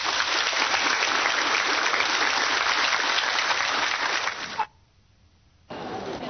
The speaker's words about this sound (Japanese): 先生方に大きな拍手をお願いいたします。